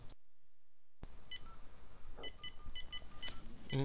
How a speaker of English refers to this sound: You will hear a series of beeps.